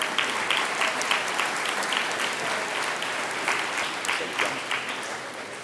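A steady burst of audience applause, many hands clapping densely and continuously at fairly even loudness for several seconds, fading slightly toward the end, with no voices.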